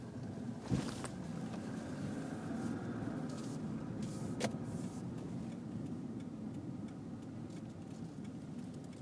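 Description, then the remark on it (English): A car drives out of a parking garage into an alley, its engine a steady low rumble throughout, broken by a couple of brief sharp clicks or knocks; no one speaks. “Driving this car out of this parking garage into this alley.”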